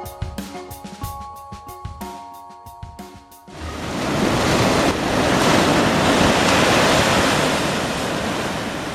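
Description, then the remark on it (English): Ocean waves crash and roar steadily against the shore at Acadia National Park in Maine, United States, a loud, continuous wash of surf that takes over after a few seconds of plucked, rhythmic music. “The sound there of waves breaking at the easternmost national park in the United States, Acadia in Maine, absolutely gorgeous.”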